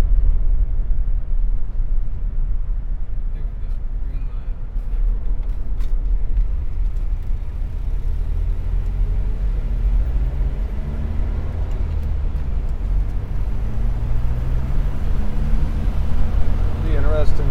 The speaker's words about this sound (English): They have some good wind screens on them, but I don't think anything can take the wind in a car window.